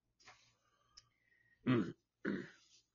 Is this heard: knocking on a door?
no